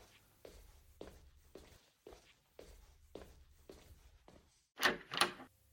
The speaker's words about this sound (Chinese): 啊，谁呀？一大早上就敲门。